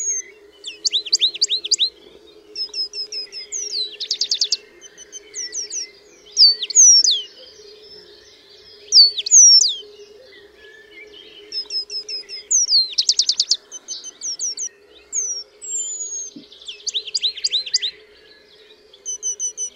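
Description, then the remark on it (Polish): Eurasian penduline tit song, clear: a mix of contact call and warm, modulated whistles in short runs of identical high notes, each run at a different pitch, separated by brief pauses over a steady low background hum. “Jego piosenka natomiast jest mieszaniną głosu kontaktowego z ciepłymi, modulowanymi gwizdami.”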